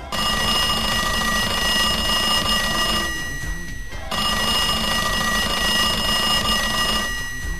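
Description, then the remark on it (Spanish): A telephone bell rings loudly in two long, shrill bursts, the first lasting about three seconds, then a brief pause before a second extended ring. No voices are heard. “El teléfono, la gripe, el lumbago.”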